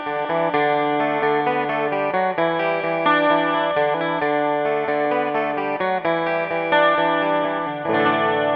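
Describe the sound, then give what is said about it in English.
A Rickenbacker 12-string electric guitar plays a bright, jangly riff alone, its chiming doubled strings ringing with shimmering chorus-like richness in a steady, rhythmic pattern of picked chords and notes. “playing that riff so you can hear the Rick in isolation.”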